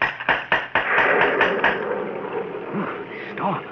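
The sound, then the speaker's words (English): A door knocker on a gate strikes about seven times in a quick, even rhythm, each knock sharp and loud, then stops, leaving a steady rushing noise of wind and rain from a storm at night. “Here's the knocker.”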